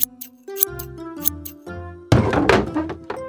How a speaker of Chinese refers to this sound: 突然砰的一声，花花撞到后面的桌子，痛得哭了